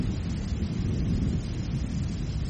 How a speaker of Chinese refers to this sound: 六月的台北炎热又潮湿，随之可能到来的是午后的雷雨。闪电划过天空，雷声随之而来，接着大雨降至，洗刷完一日的闷热和湿尘，生命继续茁壮成长。